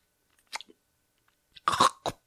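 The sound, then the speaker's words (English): A yellow crunchy candy being chewed, a few sharp crackling bites spaced apart, followed by a longer, louder burst of grinding crunches and one final snap, with no talking. “Excuse me, yellow one. Crunch. Crunch. Crunch.”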